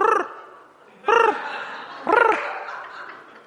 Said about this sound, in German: Huh, das sind aber viele Tauben.